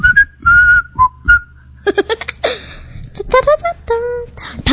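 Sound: whistling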